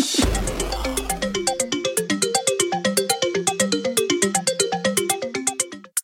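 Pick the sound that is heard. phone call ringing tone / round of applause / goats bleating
phone call ringing tone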